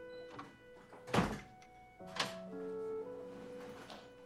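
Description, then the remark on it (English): A door shuts with a solid thud as someone walks in the door, returning home, followed about a second later by a second, lighter knock, while faint sustained tones hum steadily in the background. “Brenda walks in the door, returning home.”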